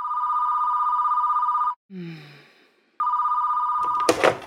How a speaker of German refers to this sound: Dann klingelt um 9:15 das Telefon.